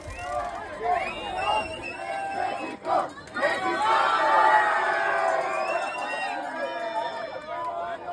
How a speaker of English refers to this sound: The cries that rang out over Montjuïc that evening were the patriotic outpourings of a crowd revelling in the glory of the present moment, rather than speculating about the future.